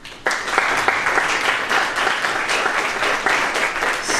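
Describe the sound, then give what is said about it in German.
A burst of applause from an audience at a workshop begins abruptly and holds steady, many hands clapping in a dense, crackling wash at a fairly loud level for several seconds, with no voices on top. “Sogar mit Applaus zum Statik.”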